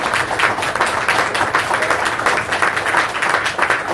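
Loud, sustained applause from a crowd, dense overlapping claps forming a steady, unbroken wash of sound for the whole stretch with no pauses.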